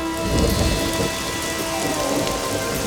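Steady rain hisses across the whole stretch, with a deep rumble of thunder swelling early on and fading back into the downpour. No voices, just the full storm.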